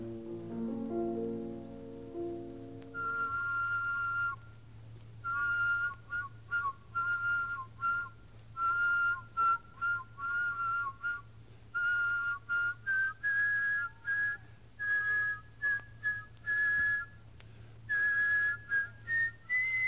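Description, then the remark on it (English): One person whistles a double melody, two melodic lines at once, the parallel tones moving together in a steady run of short, detached notes, clear, with no talking. “But counterpoint whistling requires two completely independent whistles in second, third, fourth, in fact, all of the intervals.”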